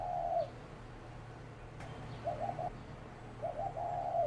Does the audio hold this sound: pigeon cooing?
yes